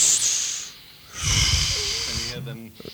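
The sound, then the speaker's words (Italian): A voice mimics a sleeper's breathing: a hissing inhale, a pause, then a long rasping, snore-like exhale, ending with a brief voiced sound, fairly loud. “Ora, se prendete questi tre suoni e raffigurate una persona che dorme, avete un suono come questo.”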